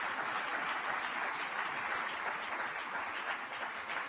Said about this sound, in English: So give Mr. Pete Rouse a big round of applause.